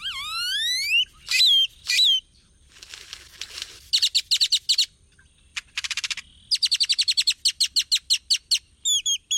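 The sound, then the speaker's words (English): A 16-inch great-tailed grackle of the Southwest sings its song: rising squeaky whistles, a burst of harsh static-like noise, then rapid series of sharp, jangly electronic clicks and yodels, loud and varied, with no talking. “The 16-inch great-tailed grackle of the Southwest sings the most complex grackle song, a symphony of squeaky hinges, explosions of static, and electronic yodels.”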